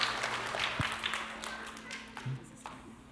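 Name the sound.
audience applause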